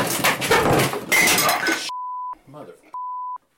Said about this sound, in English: the entire chair just collapsed from under me. I crashed to the floor. And thankfully, the tape recorder was on.